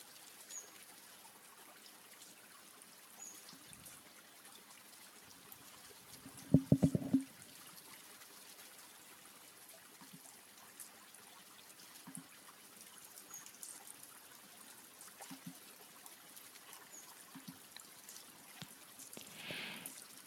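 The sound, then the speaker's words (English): Soft, steady flowing water trickles and swirls throughout at a low level, with one brief louder splash partway through; no voices are heard. “You are firmly anchored in the river, and the water is rushing all around you. It's swirling and rushing and splashing against you.”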